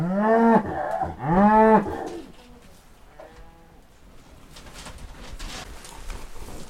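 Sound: highland cattle mooing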